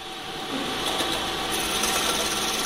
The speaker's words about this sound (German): Ja, also es rattert und rödelt, da wird etwas abgezählt und dann durch einen Schlitz ausgegeben. Genau, das ist ein Geldautomat.